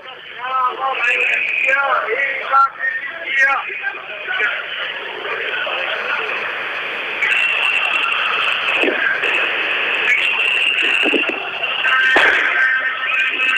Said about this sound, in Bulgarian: Отново се чу някаква сериозна бомбичка.